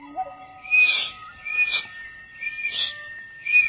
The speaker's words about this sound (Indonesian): Peluit daun kutai berbunyi.